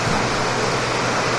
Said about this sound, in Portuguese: A chuva vai me atrapalhar um pouquinho, tem que falar mais alto.